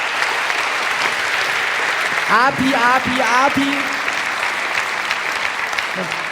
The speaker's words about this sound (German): Erstmal einen riesigen großen Applaus für Matador.